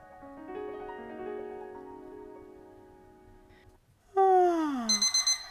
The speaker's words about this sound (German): Es ist 8 Uhr morgens. Der Wecker klingelt.